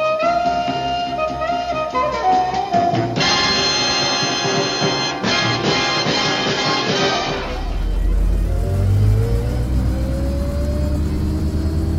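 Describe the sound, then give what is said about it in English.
A car engine rumbles to life and revs up, its low growl climbing in pitch after a stretch of tonal, music-like sound. Loud, with no voices. “But we got the car, didn't we?”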